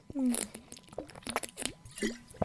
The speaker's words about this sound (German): So, ich trinke jetzt einen Schluck. Das war eine viel zu lange Erklärung dafür, dass ich einen Schluck Wasser trinken wollte.